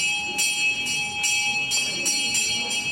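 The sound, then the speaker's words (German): A bell rings over and over in a steady, fairly quick rhythm in the large hall of a church on the outskirts of Rio de Janeiro. Each strike is bright and metallic, its clear sustained tone lingering in the reverberant space, with no one speaking. “Als die Glocke läutet, öffnen sich am Ende des weitläufigen Saales drei kleine spitze Fenster, eine Art Ausschank.”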